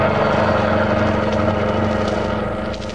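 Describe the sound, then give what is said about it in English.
A getaway car's engine roars steadily for about three seconds as it drives off, a loud, even droning rumble with layered low harmonics and no voices, easing off slightly at the very end. “Get this car going.”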